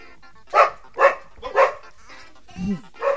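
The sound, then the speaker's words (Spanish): A dog barks about five times in a steady series of sharp barks, with short pauses between them and no one talking. “Antes se ladraba.”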